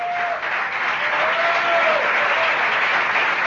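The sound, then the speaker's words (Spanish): A small audience in the basement of the Café Tortoni claps steadily, a dense patter of hands that stays fairly loud and even throughout, with a faint whistle-like tone drifting in the background. “Y que son todos esos que aplauden, naturalmente.”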